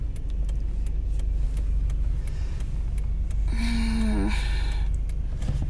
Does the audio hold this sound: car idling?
yes